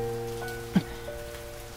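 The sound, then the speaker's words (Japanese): Steady rain falls in a continuous soft patter, with one brief, louder drop or tap partway through and a low, even hum underneath. No one speaks. “こんな出会いが、こんな雨の日にあったのはきっと必然なんだ。”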